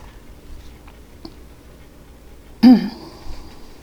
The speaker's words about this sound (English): Take another sip. I offer a sip of cool and refreshing water to all of you.